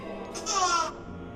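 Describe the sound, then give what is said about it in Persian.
A short burst of high, bright baby babbling rises for about half a second, fairly clear, then fades into a quiet background hum. No one speaks. “چیزی نی بچه هست.”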